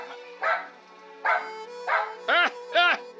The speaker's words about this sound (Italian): Scusi, ma non è che semplicemente l'ha addestrato ad abbaiare sempre 4 volte?